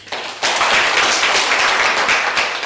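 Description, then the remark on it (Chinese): A crowd breaks into sustained applause, a dense wash of many hands clapping that swells quickly after a brief quieter start and stays loud and steady throughout. “这就是我19岁学会的思维，现在听明白的掌声高。”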